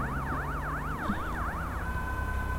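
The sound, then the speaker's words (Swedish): An ambulance siren wails as the ambulance drives away, with quick rising and falling sweeps that shift into a steadier tone near the end, over a low rumble of traffic. No one speaks. “Den kör iväg.”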